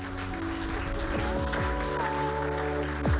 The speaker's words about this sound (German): Komm, wir geben Jesus mal einen riesigen Applaus.